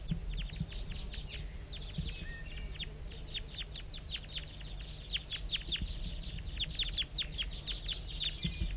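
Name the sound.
decoy birds calling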